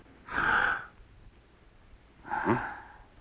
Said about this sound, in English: Good. All right. Take a deep breath.